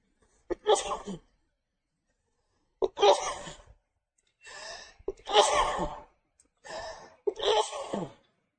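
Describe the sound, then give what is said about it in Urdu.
A series of loud sneezes, some paired with sharp inhales before them, come in bursts separated by short silent pauses. No one speaks. “شکر اللہ پاک نے نا چھوٹی سی دعا بتائی چھینک کے بعد”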